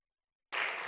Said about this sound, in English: Could you give them a hand clap of praise before you're seated?